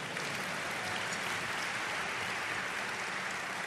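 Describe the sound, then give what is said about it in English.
A crowd at a speech about the city of Buffalo applauds steadily, a dense wash of many hands clapping at once with no pauses or voices on top, holding an even level throughout. “President Obama, yeah, you can clap on that.”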